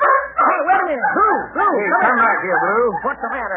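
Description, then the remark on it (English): A dog named Blue whimpers and yelps in a rapid, continuous string of whining barks, each cry sliding up and down in pitch, loud and agitated throughout, as he runs off after hearing a door open. “Now, what in the world did he run out of here for?”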